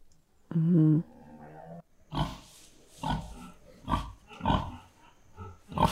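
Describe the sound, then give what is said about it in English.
A cow giving birth lets out a loud, low, drawn-out groan, followed by a string of rough, strained grunts in uneven bursts, with no other sound around them. “This cow's giving birth.”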